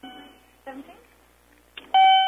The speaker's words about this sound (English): What's all that beeping? Beep, beep, beep. Make it quit.